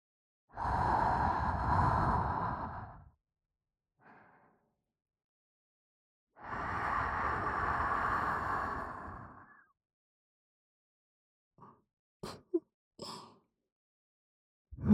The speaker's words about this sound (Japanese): ゾクゾクしちゃいます。こんなに近くから声がする。吐息が直接耳に。